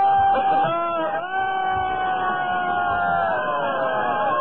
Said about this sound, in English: Sounds like a good crowd, but I don't think it's going to beat Lynchburg yet.